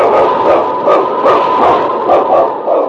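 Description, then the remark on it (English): King, a sled lead dog in the 1948 radio show Challenge of the Yukon, barks in a quick, steady series, about a dozen sharp yelps in a row, loud over a continuous hiss in the background. No one speaks. “It's King, swiftest and strongest lead dog of the North Country, blazing the trail for Sergeant Preston of the Northwest Mounted Police in his relentless pursuit of lawbreakers.”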